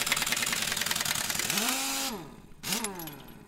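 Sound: truck engine running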